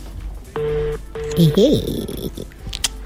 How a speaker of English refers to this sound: Let me try and call an authority number if this works. Okay. Okay, it's ringing. You're ringing.